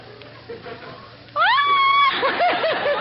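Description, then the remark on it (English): After a quiet moment, voices let out a loud, high, rising shriek held for nearly a second, imitating an eagle's scream, then break into wavering squeals and yelps. “All right, now, eagles scream.”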